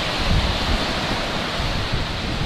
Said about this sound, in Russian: И мы, конечно, в очень экстремальных условиях работаем здесь с ветром. То есть нормальный блогер как бы не снимает на океане. Просто у нас условия такие специфические.